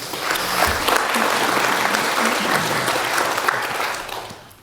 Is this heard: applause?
yes